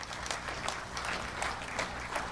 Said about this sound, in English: So I'm going to ask the wonderful team representatives to go and grab your wonderful signs and come join me on the stage. So let's give them a big round of applause as they do that.